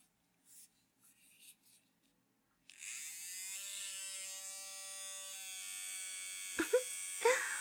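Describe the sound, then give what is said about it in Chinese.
An electric shaver switches on after a few soft scratching sounds and hums with a steady buzz for several seconds, about to be used for shaving body hair, with a couple of brief knocks near the end. “这个可是剃须刀，今天晚上我就把你的狗鸡巴毛给剃了。”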